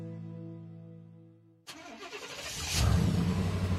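A steady tone gives way to a suburban truck engine turning over, then revving and rumbling louder as the truck pulls off across Wisconsin, with no voices.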